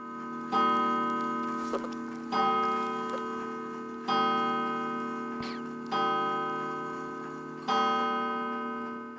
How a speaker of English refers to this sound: 9 o'clock, Grandpa Skelton's clock chiming.